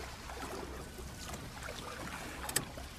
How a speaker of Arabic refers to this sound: طبعا البنات استانسوا وفرحوا وساروا وياهم في المركب. تم المركب يمشي في الغبة ويمشي ويمشي ويمشي.